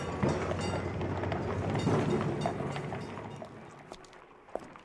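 A tram rolls along its rails with a steady low rumble, scattered metallic clicks and clacks, and a few sharp squeaks, the noise easing off toward the end.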